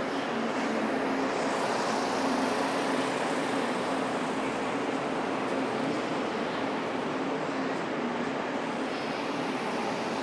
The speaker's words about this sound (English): Some kind of motorised train on its way out. A diesel train.